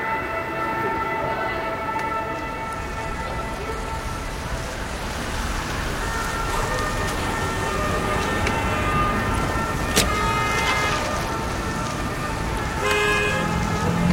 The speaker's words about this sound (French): je suis dans le trafic à Paris, j'arrive bientôt. C'est vraiment pas le bon moment pour entrer en ville. Je pensais pas qu'un dimanche soir il y aurait eu autant de monde.